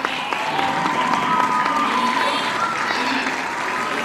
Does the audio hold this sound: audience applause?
yes